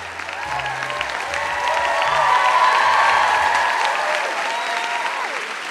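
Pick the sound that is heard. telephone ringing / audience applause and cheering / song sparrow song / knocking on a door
audience applause and cheering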